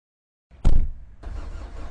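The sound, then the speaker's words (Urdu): A car engine cranks with a short loud burst, then settles into a steady idle rumble that continues to the end; no one speaks. “لیکن اس کو بہتر طور پر سمجھنے کے لیے چلیے تھوڑی سی سیر کرتے ہیں.”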